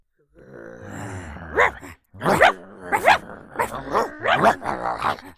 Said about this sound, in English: She barks at them. Soon, all the other dogs are barking too.